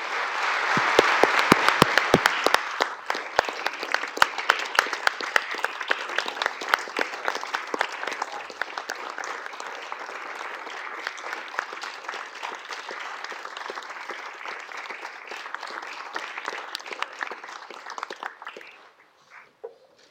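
A large crowd breaks into loud, sustained applause, dense clapping that peaks early, holds steady for nearly twenty seconds, then thins out and fades to a few scattered claps.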